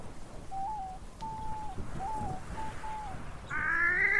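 A wood duck calls with a string of about five thin, whistled squeals at a steady pace, followed by a louder, harsher note, all over faint outdoor background noise with no talking.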